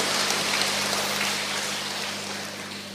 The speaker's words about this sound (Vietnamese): Chúng ta cho một tràng pháo tay để gặp gỡ một chứng nhân.